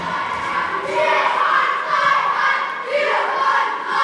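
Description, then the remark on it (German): A crowd of children shouting and cheering together in a loud, sustained roar of high voices, swelling in waves for several seconds as they storm and tear down a wall built of cardboard stools, gone within seconds, at 11 o'clock on the fifth day. “Die Kinder stürmen die Papphocker, aus denen sie gebaut wurde, und innerhalb von Sekunden ist nichts mehr davon zu sehen.”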